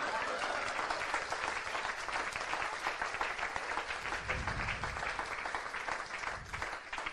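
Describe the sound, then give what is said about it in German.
Sustained applause from an audience, a dense steady patter of many hands clapping at a fairly loud level, with faint crowd murmur mixed in and no pause throughout. “Könnt ruhig klatschen.”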